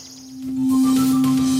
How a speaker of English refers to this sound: My goal for this is to see what I can do with a singular VCO, which is a voltage-controlled oscillator. And it's pretty much just playing a single tone right now. It's playing a sine wave here. This is what it sounds like.